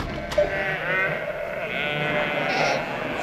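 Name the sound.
sheep bleating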